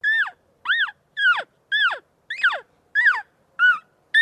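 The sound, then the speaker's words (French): A turkey call lure imitating the cry of a hen turkey being mated makes eight evenly spaced, high, nasal yelps in a steady rhythm, each rising then dropping in pitch, with no talking over them. “Mais à quoi peut ressembler le cri d'une dinde qui se fait accoupler, demanderez-vous?”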